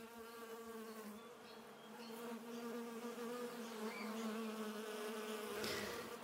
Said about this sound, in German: Ja, und was könnte sommerlicher sein, als dem Summen von Bienen zu lauschen?